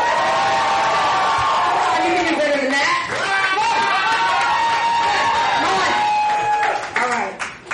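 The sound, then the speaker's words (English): A crowd cheers and whoops loudly and steadily for a first-time performer, high shouts and whistles rising over a dense roar of voices with scattered clapping, the noise holding strong for several seconds. “You can do louder than that.”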